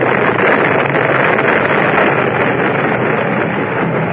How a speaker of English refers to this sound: And true to my luck, a storm came up. And what do you think happened? My boat couldn't take it. It broke apart. The mast fell on my head.